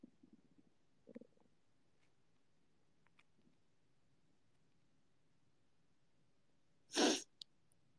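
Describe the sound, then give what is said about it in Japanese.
Low, gurgling stomach growls bubble up in a few short, quiet bursts, followed by a long stillness and then one sudden loud, breathy burst near the end. “お腹が鳴ってる。ギルギルいってる。”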